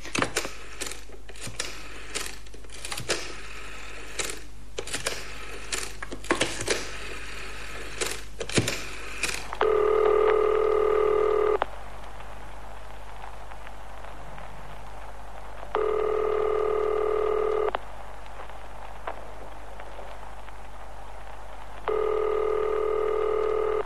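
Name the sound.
telephone being dialed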